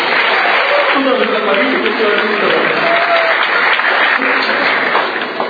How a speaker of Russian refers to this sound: Подари Богу аплодисменты.